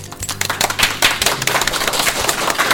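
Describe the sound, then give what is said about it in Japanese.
An audience at the Radio Life Pedition Annex event breaks into steady applause during an amateur radio program, many hands clapping at once in a dense, crackling wash of sharp slaps that holds fairly loud and even throughout, with no talking. “はい、ね、またあの公開番組のようにですね、拍手がですね非常にいい感じでございますけどもね。”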